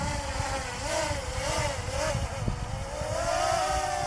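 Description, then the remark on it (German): Drone propellers revving at full throttle while the drone is held in someone's hand, a loud, continuous buzzing whine whose pitch wavers up and down over a dense rush of motor noise, with no voices. “Da hält sie die Drohne in der Hand und er gibt nochmal Vollgas.”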